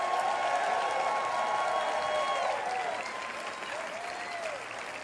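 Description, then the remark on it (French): An audience in Québec applauds steadily one morning in a dense, sustained wash of clapping, with cheers and whoops of welcome for French-speaking listeners including those in Burundi, rising above it before the noise gradually tapers off. “Et ce matin, j'aimerais que vous leur donniez un bonjour du Québec, applaudissements et un cri de bienvenue.”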